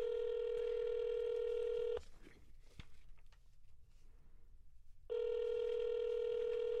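A telephone ringing tone on the line as a call is placed to a host's father during a studio broadcast: two long, steady buzzing rings separated by a pause of about three seconds, with only faint clicks and rustle in the gap.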